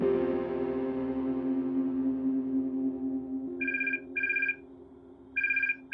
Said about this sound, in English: It's 3 a.m. on September 14th, 1989, and the phone is ringing in Ricky Ott's cabin, high above Cordova, Alaska. But it doesn't wake her.